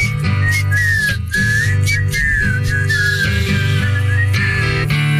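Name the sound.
person whistling a tune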